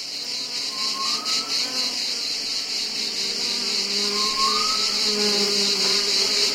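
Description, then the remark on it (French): A dense, steady drone of buzzing insects fills the air without pause, a high shimmering hum that stays fairly loud throughout, with faint lower whirring tones drifting underneath. “Le monde des insectes est vaste.”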